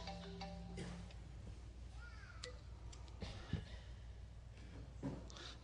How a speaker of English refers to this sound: I brought my phone up so I wouldn't go over time, and so it's beginning to tell me it's time to start winding down.